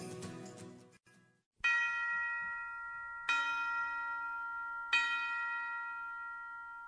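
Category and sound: signal or alarm, bells ringing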